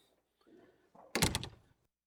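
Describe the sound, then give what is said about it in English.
A door is eased open just slightly: soft handling noises, then a short rattling thump of the latch and panel, over in about half a second, with no talking. “The minute we disobey God, it goes like that, just a little crack.”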